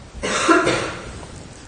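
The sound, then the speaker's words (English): A single short, clear cough, with a harsh burst of breath that fades quickly into quiet. No one speaks. “So we hear a cough.”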